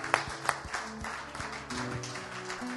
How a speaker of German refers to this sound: Dá uma salva de palma bem forte ao Senhor. Geben wir unserem Herrn einen großen Applaus.